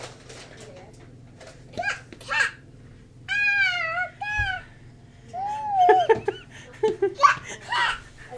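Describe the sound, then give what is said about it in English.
A young girl imitates a cat's purr, making a series of short, wavering, cat-like vocal noises with brief pauses between bursts over a low steady background hum. “Any move to stroke her, she's just kind of going, it's a black thing with a tail. Purr. She makes purr noises.”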